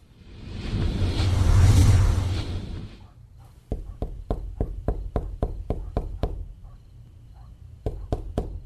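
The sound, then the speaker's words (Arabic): A rushing whoosh swells and fades, then a door is knocked on late at night in a fast, steady series of sharp raps, followed by a short pause and three more knocks. No one speaks. “أيوة اللي على الباب.”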